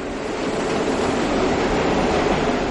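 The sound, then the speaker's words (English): A loud, steady roar of subway trains at the 79th Street and Broadway stop in Manhattan, with all four trains coming in at the same time: a dense, unbroken wall of rumbling rail noise with faint rattling, with no one speaking. “I was at the 79th Street and Broadway stop. By happenstance, all four trains came in at the same time, and the noise was really mind-boggling.”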